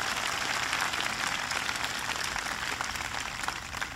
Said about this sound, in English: the executive director of the White House Council on Auto Communities and Workers, who's working hard, has a direct line to me each and every day. He's traveling constantly back here. Ed Montgomery, please give Ed a big round of applause.